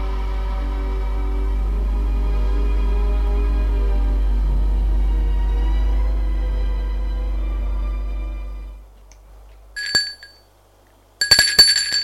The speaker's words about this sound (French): Un coup de sonnette.